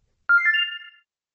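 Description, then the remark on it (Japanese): A brief electronic mobile phone ringtone plays alone: a bright, clearly audible burst of a few quick melodic tones lasting under a second, then silence. “遅刻したときは心身が焦っているため、携帯電話の電源オフを忘れがちです。”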